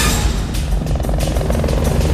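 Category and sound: vehicle, police helicopter flying overhead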